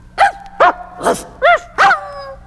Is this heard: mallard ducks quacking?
no